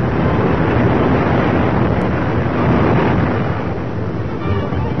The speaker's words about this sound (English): These are the finals of the Eastern Ice Yacht Association's annual championship regatta, and there's rough water, I mean ice ahead, so hold fast there, matey.